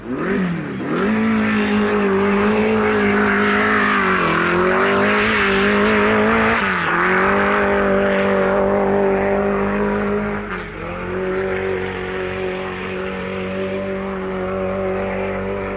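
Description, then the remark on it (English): A loud V8 engine of a 3.5-litre Cooper Buick single-seater racing car revs hard during a competition run, its pitch climbing through repeated gear changes as it accelerates steadily for about fifteen seconds, with no voices. “The typical V8 engine note heralds a run by Dick Soanes in his 3.5-litre Cooper Buick single-seater racing car”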